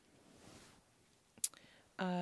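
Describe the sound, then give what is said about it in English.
A single sharp pop of a mint bubble gum bubble snaps out of the quiet, and a moment later someone begins speaking. “Well, I figured you'd be talking about hookers, so I figured I'd be popping my bubbles like one when you got home.”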